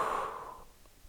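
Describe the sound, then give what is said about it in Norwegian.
A slow, breathy exhale during a breathing exercise, a soft airy rush that fades out over about half a second, followed by near silence. “Og pust ut.”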